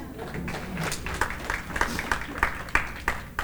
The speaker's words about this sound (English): Come on, get a Lord a hand clap. Amen.